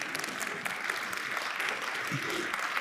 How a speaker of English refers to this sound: And 3 days later, Jesus rose from the dead to new life for this man and for you. You can clap for that.